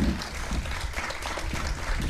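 A crowd applauds steadily, a dense, even wash of many hands clapping at a moderate level with no pauses, continuing throughout.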